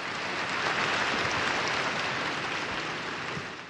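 Church council fathers applaud as a decree passes, 2,137 approving and 11 dissenting: a dense wash of clapping that holds at an even level for several seconds before easing off slightly at the end. No voices stand out.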